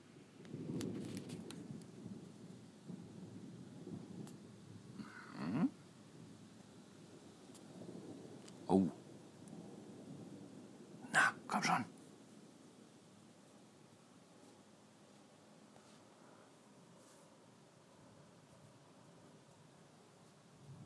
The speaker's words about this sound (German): Aber ich höre hier seit der ganzen Aufnahme im Hintergrund durchgehend mal weiter weg, mal ganz weit weg, mal ein bisschen näher. So Dauergedonner. Das heißt, es geht ganz schön ab.